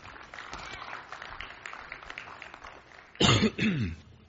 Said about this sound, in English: This cough will not leave me. I think it's just here to stay.